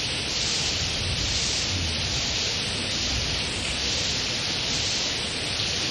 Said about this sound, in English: So I see that upon your coming, everything is cleansed by Krishna sending all of this rain. The atmosphere becomes cool, and the sound of the rain is also very pleasing.